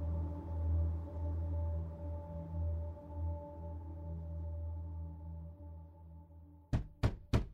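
Three firm knocks on a townhouse door by a stabbed man land in quick succession near the end, following several seconds of a steady low droning hum with no voices.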